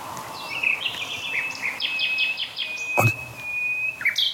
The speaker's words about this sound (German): Und ganz spannend ist, dass wir am Tag die Hotspot-Nachtigall und die Hausnachtigall intensiv singen hören. Was quasi ein deutliches Zeichen ist, dass sie ihr Revier anzeigen, ihr Revier markieren. Jetzt aber auch noch nachts singen.